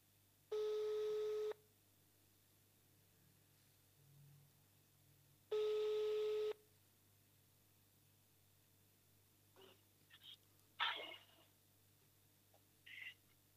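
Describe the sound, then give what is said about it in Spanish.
Two steady, buzzy telephone ringback tones of an outgoing call to the mayor of Santo Tomé, each lasting about a second with a long pause between, followed by a few faint clicks and rustles on the line. “a ver si me atiende el teléfono en esta mañana.”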